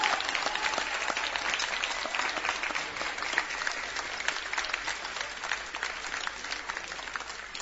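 An audience claps steadily for several seconds in thanks to the priests and parishes who support the project with voluntary contributions, a dense, even patter of many hands at a fairly constant loudness, with no voices rising above it.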